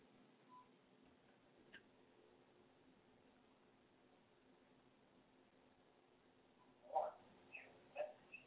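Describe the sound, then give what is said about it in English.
After a long stretch of quiet background hiss, a telephone unit gives a few short electronic beeps in quick succession near the end, fairly faint and with no one talking. “Otherwise, it's just going to keep beeping, and it's going to be real distracting from flowing in the Lord.”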